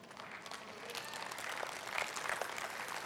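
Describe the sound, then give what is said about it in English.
An audience claps in a steady, dense patter that swells slightly partway through, with faint crowd murmur underneath and no clear speech. “Thank you for clapping at my parenting.”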